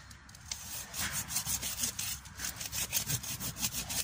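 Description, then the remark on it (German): A worn saw with a badly frayed blade rasps steadily in quick, rough back-and-forth strokes, fairly loud, cutting through wood and partly into the ground, with no voices. “Die Säge ist komplett hin. Ihr seht da unten, das Sägeblatt ist schon komplett ausgefranst.”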